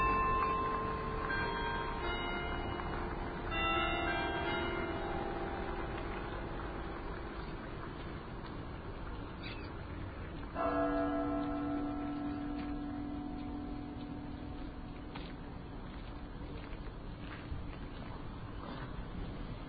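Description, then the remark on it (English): A church bell strikes one o'clock in the afternoon, a few widely spaced strokes, each leaving a long, humming decay, over a steady wash of outdoor car traffic noise. No one speaks. “The church has just struck one. It's 1 o'clock in the afternoon.”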